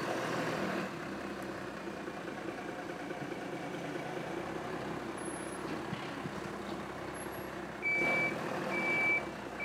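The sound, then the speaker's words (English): A lorry's engine rumbles steadily throughout in Hasselmüller, then near the end a few evenly spaced, high-pitched reversing beeps sound over the engine noise. No one speaks. “And now this lorry is going to spoil the silence once more in Hasselmüller.”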